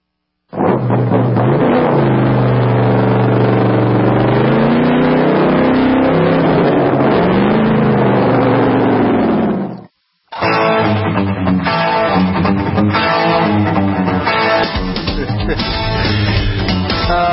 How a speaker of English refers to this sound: I think he thought his exhaust sounded good on that old jalopy stock. Well, it actually did. Wonder if it's a Borla. Maybe a Flowmaster. You guys out there know that word, Flowmaster. Exhaust systems, the mufflers.